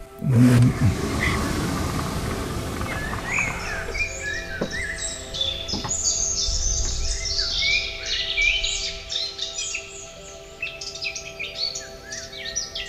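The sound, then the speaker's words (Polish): Many birds sing and chirp in dense overlapping bursts outdoors by a ravine with trees in Nałęczów, over a steady low rumble like traffic, with a brief thump at the start and no talking. “najważniejszą wartością tych apartamentów jest to, że one są tak bardzo mocno otwarte na wąwóz, na drzewa, na liście, na gałęzie, na śpiew ptaków, że mamy to wszystko tak naprawdę na wyciągnięcie ręki.”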